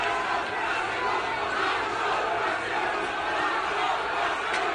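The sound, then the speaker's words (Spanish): A large crowd of yellow-vest protesters shouts in a steady, loud roar of overlapping voices, a left-wing group yelling at another group of demonstrators to get out, calling them fascists, chanting and yelling continuously with no pauses for the whole stretch. “Un grupo de izquierda gritaba fachas fuera a otro grupo de manifestantes.”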